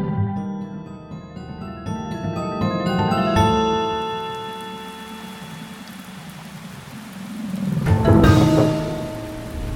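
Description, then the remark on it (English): Steady rain hisses beneath sustained musical tones, and a low rumble of thunder swells and fades toward the end. No one speaks. “I would miss playing in the rain.”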